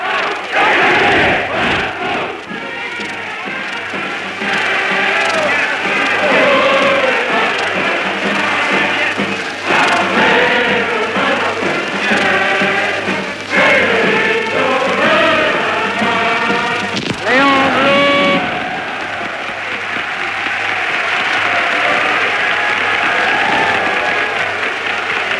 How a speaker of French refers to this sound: En mai 1936, la foule chante l'international et acclame Léon Blum, le socialiste Léon Blum.